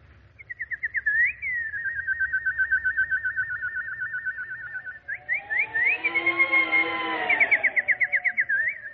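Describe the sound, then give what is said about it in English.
A nightingale sings: a long run of rapid, bright warbling trills, then a fuller, swelling phrase with richer tones beneath, ending in quick trilled notes, with no talking. “Oh, little nightingale. With your song, you have driven evil visions from my mind.”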